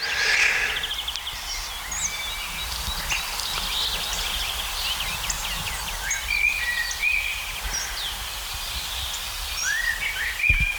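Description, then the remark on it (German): A common blackbird sings mellow, fluting phrases amid a busy chorus of other birds chirping and trilling outdoors, steady, with no one talking. “Natürlich eine der Hauptdarstellerinnen, die Amsel, besser gesagt der Amselbruck.”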